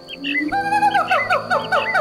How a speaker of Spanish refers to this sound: Tomémonos un momento y miremos lo hermosa que es la naturaleza a través de su variedad de sonidos. El trinar de los pájaros.